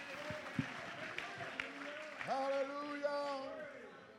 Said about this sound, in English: Oh, you ought to clap your hands as if to say, that's what I see when I see the cross. Oh, as you clap your hands, would you shout with your voice? Would you lift up your voice as if to say, when I see the cross?